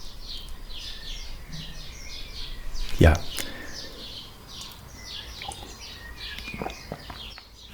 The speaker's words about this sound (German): Und hier passe ich mich deshalb auch an, schiebe jetzt einen Abschnitt ein, wo alles so auf Watte, auf Eis liegt und ihr einfach hier im Hintergrund die Vögel zwitschern hören könnt. Früher Morgen, Amsel schon längst am Zwitschern, Amsel, Drossel.